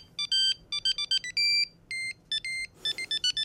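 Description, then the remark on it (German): A classical tune plays as a mobile phone ringtone in bright, synthetic electronic tones, quick clipped notes alternating with longer held ones, heard clearly on its own with no voices. “Ja, zum Schluss zu einem Klingelton, den manche auf dem Handy haben.”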